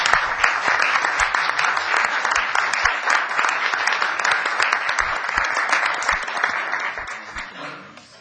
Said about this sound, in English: If you would please rise and be recognized by the board. Please join me in giving a round of applause.